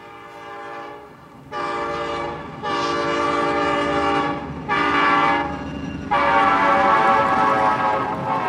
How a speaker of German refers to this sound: Wir nehmen den Morgenzug nach Kiew.